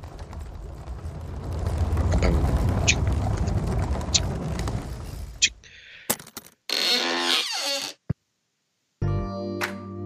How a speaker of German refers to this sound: Dass da so ein Sarg aufgeht. Aber nein, es ist die Schranktür, wo unsere Band drin steht, die immer freundlich untermalt, wenn wir euch erzählen, wer wir sind.